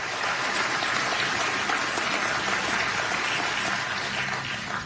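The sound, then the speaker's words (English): A large audience in the Rose Garden rises to its feet and applauds continuously for the nominee, Judge Amy Coney Barrett, after the president steps back from the podium: a dense, steady wash of many hands clapping at even loudness for the whole stretch, with no voices rising above it. “An extended round of applause for the nominee.”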